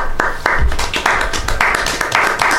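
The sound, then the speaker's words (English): A small, thin round of applause from a studio audience in the evening: a handful of people clapping in an uneven, moderately loud patter of sharp hand claps for a couple of seconds, with no voices. “Some modest applause from our vast and numerous studio audience this evening.”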